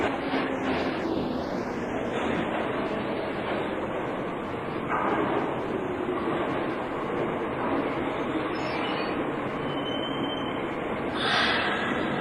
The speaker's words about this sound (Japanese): ただいま1番線に到着の列車は梅田、難波、天王寺から我孫子行きでございます。